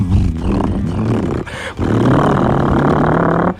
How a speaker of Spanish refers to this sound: y es el sonido de la Harley, ¿no? Es ese motor.